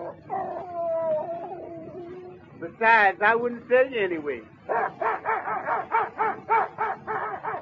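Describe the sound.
A dog whimpers in drawn-out, wavering whines, then lets out a few sharp, high yips, followed by a rapid series of short pained cries, fairly loud, with a man speaking at one point.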